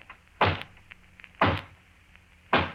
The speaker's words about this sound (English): And then there's the hollow knock on the front door. I'll demonstrate that, too.